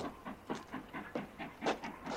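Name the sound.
distant train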